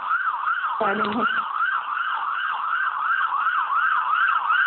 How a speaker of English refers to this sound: Okay, we have a siren. We've got that car going by. Mute it.